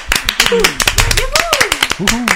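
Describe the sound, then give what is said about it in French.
An audience applauds with dense, steady clapping lasting the whole moment, while a few voices call out and speak over the crowd's claps. “Allez, donc on applaudit très fort, s'il vous plaît.”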